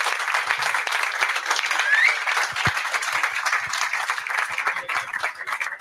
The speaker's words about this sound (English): Will you give a round of applause to Dane Massey, please?